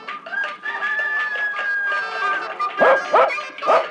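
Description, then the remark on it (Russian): A dog at its kennel in a farmyard barks three times in quick succession near the end, loud, following a drawn-out rooster-like crow amid barnyard sounds of chickens, sheep and cows. “И куры заплясали, и овцы, и коровы, и собака у будки.”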